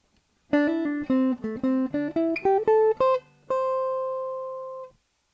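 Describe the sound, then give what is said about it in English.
A short guitar phrase of about a dozen quick notes, some slurred together as hammer-ons and pull-offs, moving upward before landing on one long ringing note that fades out. No one speaks. “Again, we'll stay in the same key, and this time I'll give you one that has a hammer-on and pull-off.”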